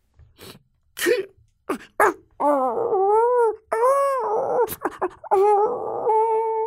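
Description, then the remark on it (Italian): A dog, Bau, sobs and whimpers after seeing a snail pass by: a few short sniffling gasps, then three long, wavering whines that rise and fall in pitch, broken by brief breaths, with no talking. “Bau vede passare una chiocciola e singhiozza.”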